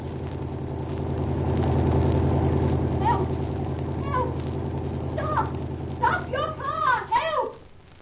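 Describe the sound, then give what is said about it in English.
A car engine drones steadily on a lonely road, its low rumble swelling slightly as it approaches, with raised voices breaking in over the motor toward the end. “Here comes the car now.”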